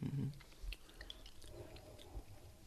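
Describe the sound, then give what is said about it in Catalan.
Quiet wet mouth sounds of a Garnacha wine with ripe tannins being sucked, swished and chewed around the mouth during a tasting, with soft smacks and liquid squelches over a few seconds and no talking. “Vaig sucant perquè té els tanins molt madurs.”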